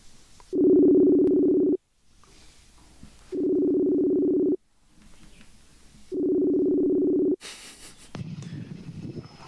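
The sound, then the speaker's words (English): Three steady ringback tones purr from a phone line on a call placed to Australia, each about a second long with even pauses between, ending as the call connects with a click and faint line noise. “Ooh, we have rings.”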